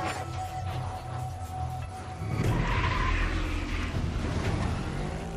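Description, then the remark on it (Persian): Pierce's car, on its way to Coney Island and unable to slow down, roars at speed; tires screech loudly around the midpoint, the skid squeal lingering over the engine noise for a couple of seconds. “پیرس معمولا زیاد سرعت داره ولی با دقت میرونه.”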